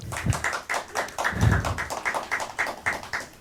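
Audience applause: many hands clapping in a dense, uneven patter of crisp overlapping claps, holding a fairly steady level for a few seconds with no voices.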